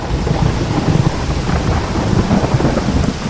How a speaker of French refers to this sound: Un homme pêchait de nuit quand, soudain, un nuage noir sortit de la montagne et couvrit bientôt le ciel. Puis, apparut un nuage blanc qui déclencha un orage au-dessus de sa tête.